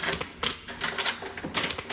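Metallic clicking and jangling in several quick bursts as keys rattle and turn in the lock of a man's home door, with short pauses between the bursts.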